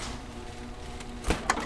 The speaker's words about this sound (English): Doors opening.